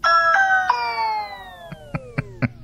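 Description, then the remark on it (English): A Ring smart doorbell chime rings three quick bright tones that sustain and slowly fade, followed by a run of short, sharp taps at a steady pace. No voices. “Another text from your Ring doorbell.”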